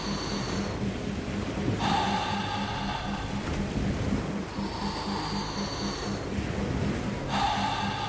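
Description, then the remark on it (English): Deep, forceful breaths repeat in a steady rhythm, about one every three seconds, each a loud airy rush over a constant low droning background. “Just breathing deeper into it. Just going into the breath.”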